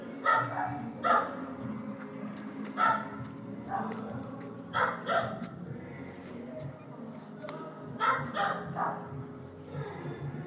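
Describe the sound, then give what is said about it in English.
Two neighbouring dogs, one living next door and one living upstairs, trade sharp barks back and forth at each other in short bursts of two or three every second or so, over a steady low background hum. “The dog that lives next to us and the dog that lives above us are barking at each other.”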